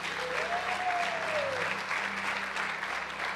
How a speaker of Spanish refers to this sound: Dese un aplauso usted porque usted está aquí.